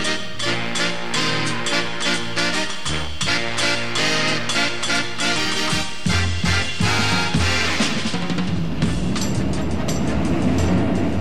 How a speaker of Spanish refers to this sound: No supersónico, pero sí bastante rápido, el metro hacía su primer recorrido en la Ciudad de México, con la presencia del presidente Gustavo Díaz Ordaz.